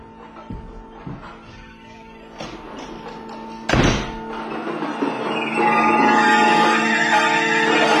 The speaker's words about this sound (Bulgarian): На излизане просто хлопни вратата. Ключалката е автоматична.